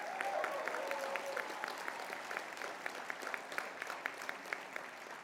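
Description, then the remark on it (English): An audience claps steadily for several seconds for five students, a dense wash of many hands with a few sharper individual claps popping out above it, fairly soft overall and without any talking. “Give them a round of applause, too.”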